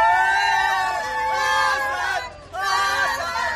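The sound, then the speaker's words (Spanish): A huge crowd of about 50,000 Real Madrid fans at the Estadio Santiago Bernabéu chants "Hazard" in unison at his presentation as a new signing, two loud rhythmic swells of many voices roaring together with a brief dip between them, echoing across the open arena. “Ese era el grito del madridismo, Hazard, Hazard, Hazard.”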